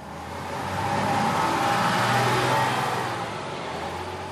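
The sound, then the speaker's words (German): A bus engine revs up and accelerates as the bus pulls away from a roadside bus stop after passengers board, heading to Tegel Airport; its low steady drone swells louder over a couple of seconds before easing slightly. “Sie stiegen ein und fuhren los.”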